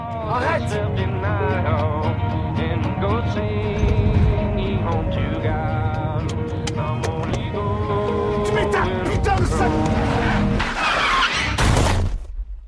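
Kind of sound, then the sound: vehicle, car driving and skidding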